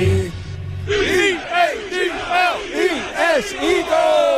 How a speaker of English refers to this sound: I thought when everyone started cheering for you, you were going to choke.